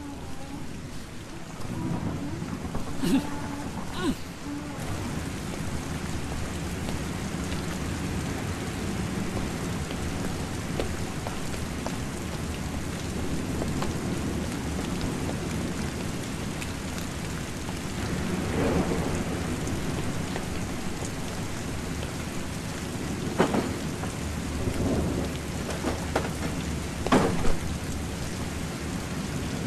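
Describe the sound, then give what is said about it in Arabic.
Steady heavy rain pours down throughout, with low rumbles of thunder rolling in and out and a few sharper cracks near the end. No one speaks. “هيا تعالوا معي، لفوا هذه الطفلة كي لا يبللها المطر، وأنت لا تقلقي يا ابنتي.”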